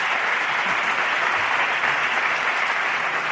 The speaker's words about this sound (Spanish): Y un aplauso al Cascamorras.